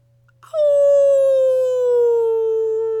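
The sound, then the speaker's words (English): A single long wolf howl in the woods begins after a brief pause, holding a loud, clear, steady tone that slowly slides lower over about two and a half seconds, with a faint low hum underneath. “Don't do that, they got wolves. You'll attract them.”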